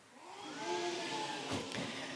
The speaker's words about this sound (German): Ein kalter Wind zieht auf.